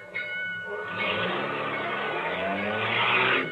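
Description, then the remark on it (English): A car engine strains with a rough, grinding drone that holds for a few seconds before the motor stalls out with the car stopped on a railroad crossing, with no talking over it. “Hey, what's the idea? You stalled the car.”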